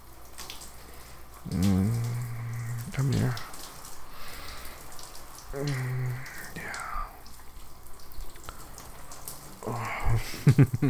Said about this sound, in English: I want a nice long shower now. Just hope the water can stay hot long enough.